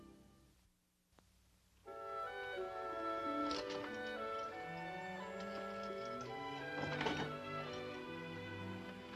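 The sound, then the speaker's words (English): A new refrigerator's motor kicks on after a brief pause, humming steadily with a buzzy mechanical drone, broken by two louder rattling clatters partway through from one of the buffers on the motor. Fairly loud, with no voices. “It was just one of the buffers on the motor.”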